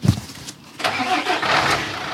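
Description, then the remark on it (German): A moving truck's engine rumbles to life after a brief thump, then holds a steady, moderately loud drone as Matthias backs the truck about half a metre so its loading ramp sits right in front of the house entrance during a house move, with no voices. “Also setzt Matthias den LKW ein Stück zurück.”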